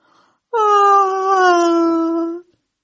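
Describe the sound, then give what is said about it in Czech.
A single long, voiced yawn with a tone that slowly sinks in pitch, lasting about two seconds and heard clearly on its own with no talking around it. “Najednou však uslyšel tiché zívnutí.”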